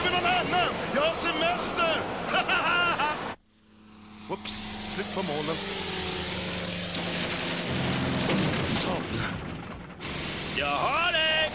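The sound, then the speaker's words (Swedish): An engine grinds and rattles with a low mechanical hum, then sputters and seizes before cutting out. Excited voices are heard before and after the breakdown. “Det var motorn som skar för mig.”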